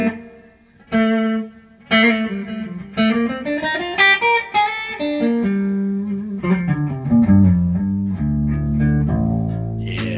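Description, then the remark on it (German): An electric guitar plays a melodic line of sustained notes through a Blue Guitar amp with its built-in reverb turned all the way up. Each note rings out and blurs into a long, washy tail with a slightly gritty edge. “Dreh mal den Hall ganz auf. Auch ein den was? Den Hall. Ziemlich cooler Hall auch, bin ich eingebaut.”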